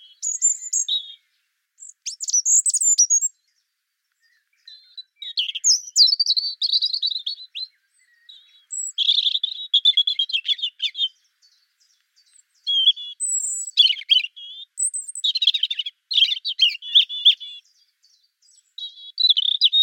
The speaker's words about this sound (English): So the robin song is, I think, one of the most interesting that we've got.